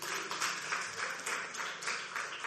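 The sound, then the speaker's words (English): A church audience claps and applauds steadily, a dense wash of many hands at moderate loudness with no pauses, sounding like a large gathering. “And you look lovely. You look lovely. Clap for yourselves.”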